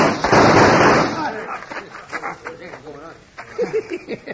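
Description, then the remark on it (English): A loud, harsh burst of gunfire fills the first second, the shots blurring together, then dies away as several voices shout and call out over fading noise. “Shoot him, you fool!”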